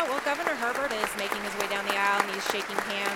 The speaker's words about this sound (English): We're hearing you a little bit over the applause there. Can you give us an idea of what's happening in the chamber right now?